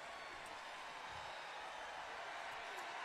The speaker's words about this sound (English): My only regret, I can't be at both parties. Listen to that crowd. Milwaukee represent.